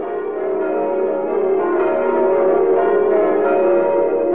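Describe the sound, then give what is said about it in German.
The church bells of the Church of the Nativity in Bethlehem ring continuously, their overlapping tones forming a dense, sustained wash of metallic sound that stays loud and steady throughout, with no voices present. “Die Glocken der Geburtskirche von Bethlehem.”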